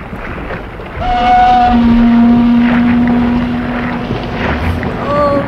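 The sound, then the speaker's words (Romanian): An old, slow steamboat runs with a steady, rumbling engine drone. A long, low tonal hum rises over it, with brief higher whistling tones near the start and end. “Încet vaporul ăsta, nu, Tom? Păi e cam vechi.”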